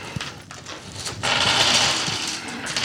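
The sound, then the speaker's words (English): Dice clatter and rattle across a table during a tabletop game, a few sharp clicks at first, then a louder, sustained bright rattling that continues to the end, with no voices. “As the sound of the dice fill the table.”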